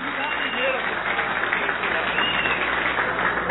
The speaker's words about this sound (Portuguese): Pode aplaudir mais forte. Bem mais forte.